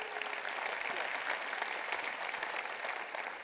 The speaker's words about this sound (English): Let's give the North County people a big hand. God bless y'all.